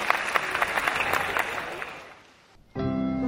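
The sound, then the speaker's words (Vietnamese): A round of applause from young people, dense and steady clapping from many hands welcoming a video clip about a mother, fading out over a couple of seconds before a sustained tonal sound, like music, begins abruptly. “Các em sẽ cho một tràng pháo tay để đón nhận clip về người mẹ thân yêu.”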